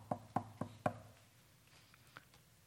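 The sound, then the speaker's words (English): Four firm knocks on a wooden door in a quick, steady rhythm, fairly loud, followed by quiet with only faint background noise. “And so he goes to however many miles it is and knocks on the door.”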